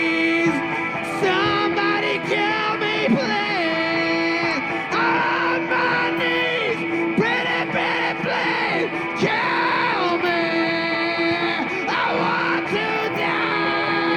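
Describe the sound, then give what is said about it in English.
A man screams a song from the film The Wedding Singer at full volume over steady backing music, his strained voice wavering and cracking on drawn-out, wailing notes throughout the loud, continuous passage. “Like, his voice gets all cracky at the end, he's screaming it.”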